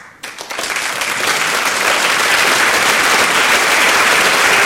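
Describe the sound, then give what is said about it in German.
A theatre audience at the premiere of Christoph Marthaler's Hotel Angst in the large hall of the converted Schiffbau in Zurich bursts into applause that quickly swells to a dense, loud, sustained roar of clapping, with some cheering mixed in. “Der laute Jubel im Schiffbau wurde bald vom Trubel um dessen Finanzierung übertönt.”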